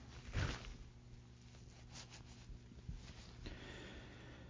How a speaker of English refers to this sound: And I tell you what, hold on for a second. Sniffle the whole time, so we'll try that.